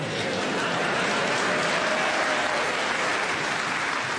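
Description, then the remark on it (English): Sustained applause from a game show audience before the music round One Song to the Tune of Another, a dense, even wash of clapping that holds steady at a fairly loud level for about four seconds, with no voices over it. “It's always best to applaud before these rounds, I think.”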